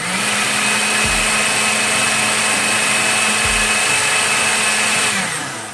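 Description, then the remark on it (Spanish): A blender processes a cooked tomato sauce, running steadily for several seconds with a loud, constant motor whine, briefly dipping in pitch twice as the thick contents churn, then winds down at the end. “Una vez que ya esté todo bien cocido, si deseas una textura más fina, puedes retirar el laurel y procesar la salsa con una licuadora o mixer.”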